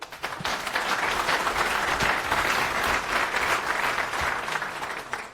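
Steady applause from an audience welcoming a speaker invited back to give a talk, many hands clapping in a dense, even wash of sound that holds at a fairly loud level for about five seconds, with no voices over it.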